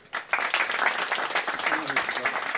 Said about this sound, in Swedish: Ni får applådera. Ni klappar när jag säger hur många rätt ni har fått.